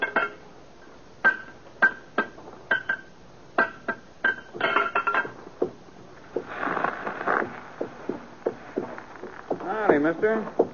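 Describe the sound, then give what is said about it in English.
A steady, evenly spaced clip-clop of a limping horse's hooves, each strike sharp with a faint metallic ring, as the horse loses a loose, split shoe at a blacksmith shop, gives way to scuffing, rustling movement and a brief burst of voice near the end. “Well, the horse is losing a shoe here.”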